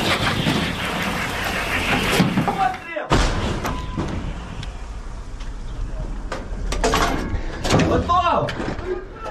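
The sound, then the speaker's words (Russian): An artillery gun fires a single loud shot, a deep booming blast that rolls into a long rumbling roar, with indistinct voices and clattering underneath. “Постріл!”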